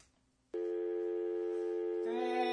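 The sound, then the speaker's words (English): A faint hum gives way to a sudden, steady electronic telephone tone that holds evenly, then shifts to a brighter, fuller pitch near the end. It is heard over a phone patch as a phone call is placed. “We're gonna call Doc right now on the phone”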